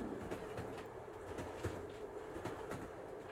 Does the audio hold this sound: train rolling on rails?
yes